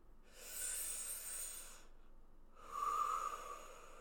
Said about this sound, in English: Take another deep breath, sweetheart. Your breathing is kind of labored.